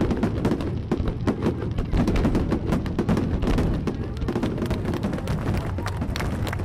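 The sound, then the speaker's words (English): A fireworks display in Derry, the first fireworks ending a week-and-a-half Clipper Race stopover, bursting in a rapid, continuous barrage, with dense booms and crackles overlapping loudly for several seconds and no talking. “And here we go, the first of the fireworks to end an amazing week and a half of the Clipper Race stop over here in Derry.”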